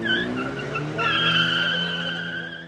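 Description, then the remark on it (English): A black Honda Civic hatchback tears off from an army traffic stop in Juarez with its tires squealing, a loud sustained shriek riding over the revving engine, rising sharply partway through and holding for a few seconds with no one talking. “During one traffic stop, a black Honda Civic hatchback parked in front of the car they're searching races away.”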